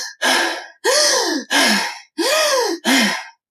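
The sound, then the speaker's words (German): Five forceful, evenly spaced breaths pushed hard in and out through the nose in Bhastrika, yoga bellows breathing, in a quick steady rhythm, loud with a rough, noisy rush on each stroke and no talking. “Und daher entsteht dieser klassische Blasebalg-Infekt. Also du atmest gleich stark forciert ein und aus.”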